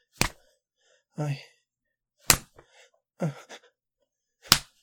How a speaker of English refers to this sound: Yes. Slap it some more. Okay. And then go back to stroking it for you.